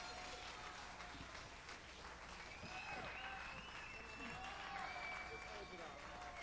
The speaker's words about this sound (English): Give it up, Houston. Thank you very much. A beautiful crowd here.